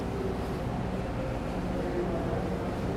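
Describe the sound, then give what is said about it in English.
A Wendella tour boat with about four people aboard rumbles past on a river in Chicago on a cold 38-degree day, a steady low drone that holds at an even level throughout with a wash of wind-like noise, and no voices. “The bridge. Here comes a tour boat.”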